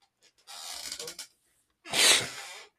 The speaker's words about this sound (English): Sorry, guys, for the sniffles. Allergies. We'll work through it.